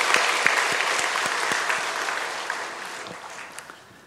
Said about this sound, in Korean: 우리 할렐루야 찬양대 변함없이 주님을 찬양하고 귀하게 섬겨주시는데 다시 한번 우리 할렐루야 찬양대에 대해서 감사하는 마음에 박수 한번 드리겠습니다.